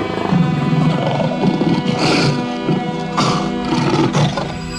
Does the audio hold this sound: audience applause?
no